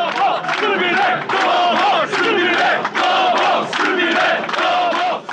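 A large crowd at a victory celebration in Serbia chants in unison, loud and sustained, with rhythmic rising and falling phrases repeating roughly every second or so and no break in the voices.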